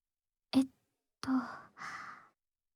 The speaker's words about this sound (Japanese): 当店では炭酸を開けるのもグラスに注ぐのも音を楽しんでもらいたいということで、耳元でやらせていただいております。